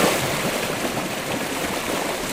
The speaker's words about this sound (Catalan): Per exemple, el riu Muga, com sona?